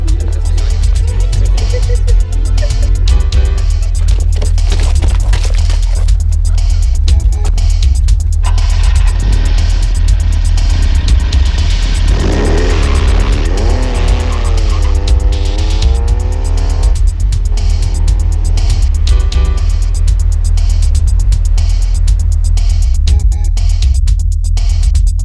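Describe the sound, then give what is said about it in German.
A car drives along a street lined with tall cypresses and ivy, past a country-house style terraced building, with a steady, loud engine rumble, its pitch climbing in rising sweeps midway as it accelerates, then settling back to a constant drone. No voices. “Hohe Zypressen und wuchernder Efeu säumten die Fahrbahn, als sie an einem Terrassenbau im Landhausstil vorüberfuhren”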